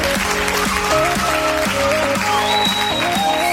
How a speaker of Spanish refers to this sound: Hola, muy buenas. Gracias, gracias por esos aplausos.